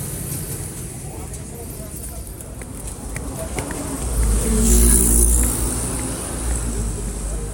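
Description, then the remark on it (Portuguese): Steady city traffic rumbles throughout in São Paulo, Brazil, and one vehicle passes midway, its low engine noise swelling loudly and then fading back into the general street hum. “Inclusive, enquanto eu tô gravando esse episódio, tenho que tomar muito cuidado com os barulhos externos, barulhos de carro, barulho de avião, enfim, é uma loucura tudo isso aqui.”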